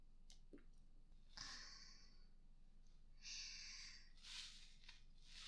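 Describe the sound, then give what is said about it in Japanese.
Soft, wet squishing and rubbing as soap is worked into foam for washing the body in a bath, coming in a few short bursts of bubbly hiss with quiet gaps between, fairly faint. “まずは泡立てて。”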